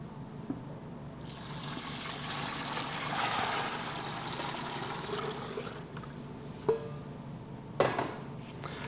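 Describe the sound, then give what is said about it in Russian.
Water pours steadily into a bowl of weighed, salted bread-baking mixture for several seconds, a soft trickle and splash, followed by a couple of sharp knocks near the end. “Потом, соответственно, добавляем воду.”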